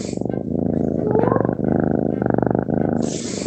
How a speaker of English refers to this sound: And she's sleeping. And she'd purr on N's chest as we chatted on the phone.